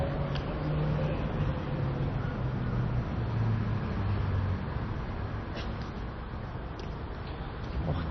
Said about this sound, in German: Nein, da ist wieder rechts was. Ich nehme fast an, ein Auto oder ein Motorrad oder ein Moped.